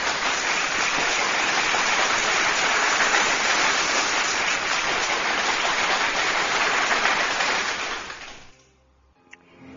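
A crowd claps steadily in a dense, even wash of applause for about eight seconds, then it quickly tapers off into near silence.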